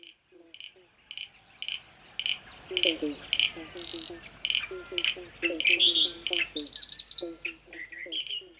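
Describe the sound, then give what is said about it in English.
A chorus of frogs calls steadily, with short croaking pulses repeating in quick clusters of two to four, while higher, rapid chirps and trills sound over them throughout. “Starts with frogs in 5, 4, 3.”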